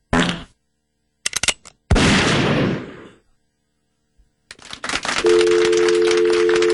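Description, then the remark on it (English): A few sharp bangs and a booming blast give way to noisy clatter, then a steady telephone dial tone hums continuously through the final seconds. “Why is there a dial tone?”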